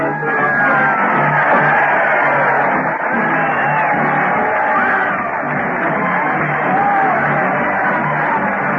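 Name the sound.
crowd cheering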